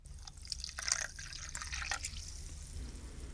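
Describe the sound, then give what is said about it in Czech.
Tea is poured into a cup in a steady stream, splashing and trickling, with bright watery spatters and a few drip-like accents over a low rumbling hum; no one speaks. “Nalivám nam tasku teja.”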